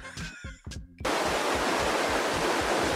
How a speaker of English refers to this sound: Just suddenly cuts to a river somewhere.